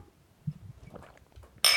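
Glasses clink together once in a toast, a bright ringing strike near the end that keeps shimmering briefly, after a stretch of soft low handling noises.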